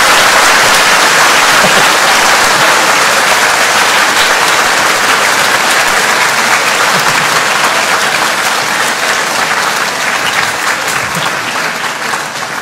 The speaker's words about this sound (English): Okay, with that, let's put our hands together and say sadhu 3 times and also clap. Sadhu, sadhu, sadhu. Go on, clap if you want to clap. Give it a good one.